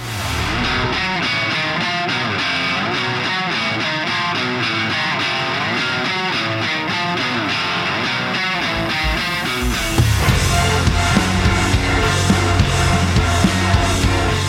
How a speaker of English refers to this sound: And this synth pad is just crushed under the weight of its own vibrato. Yeah. Like it's just swelling and just squashing itself down.